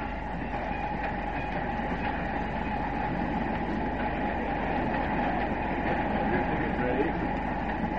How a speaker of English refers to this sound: Snapshot number one. A scene on a train just after crossing into Canada by way of Niagara Falls.